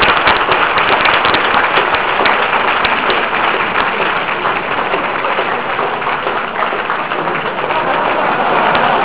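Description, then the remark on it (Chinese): Sustained applause from a college audience thanking Teacher Wei after a lecture on machine language, a dense, steady patter of many hands clapping at an even loudness for about nine seconds, with no voices on top. “请同学没有掌声来掌声欢迎魏老师。”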